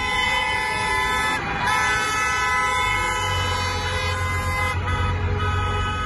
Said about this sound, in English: But then the most remarkable thing that I saw was that all of the Beijingers who had come out specifically in their cars, driving in the southbound lanes of the Third Ring Road, honking their horns in support of the protesters.